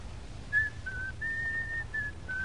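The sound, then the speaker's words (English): Someone whistles a short, simple tune of several sustained notes with brief gaps between them, inside a house, fairly soft and steady over a low background rumble, with no talking. “You know, it's bad luck to whistle in the house.”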